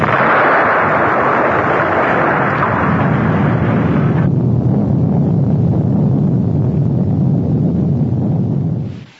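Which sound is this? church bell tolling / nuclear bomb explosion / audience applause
nuclear bomb explosion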